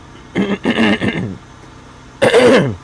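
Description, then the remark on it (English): Fairly loud throat clearing in a car on a Sunday morning: a cluster of raspy, gravelly hacks, a brief pause, then one more harsh cough-like clear. No talking. “I don't have a cough button on this application I'm using.”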